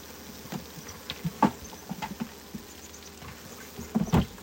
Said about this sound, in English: The shake and pound should be a wrestling move. Which is when I pound the edges on the hive itself to knock the bees down off the frame.